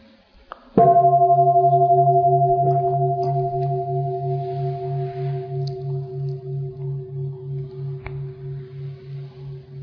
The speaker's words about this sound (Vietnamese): Mình im vậy thôi chứ cái anh chàng này hôm nay sẽ thỉnh chuông không có được trong mà được ngân lắm.